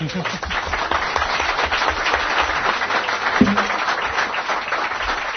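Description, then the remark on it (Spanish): An audience on the radio programme La Rosa de los Vientos applauds its musician and singer steadily for about five seconds, a dense, crackling wash of many hands clapping at constant loudness, with a few voices calling out underneath. “este aplauso para nuestro músico, para nuestro cantante,”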